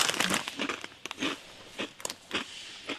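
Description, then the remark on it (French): Someone bites into a crunchy croquant occitan, a nut biscuit now made with hazelnuts, and keeps chewing, giving a run of sharp, dry crunches and crackles, dense at first and then spaced out, with no talking. “Donc, on goûte le croquant occitan.”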